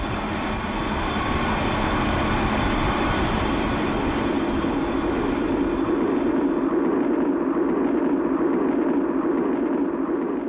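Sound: train travelling on rails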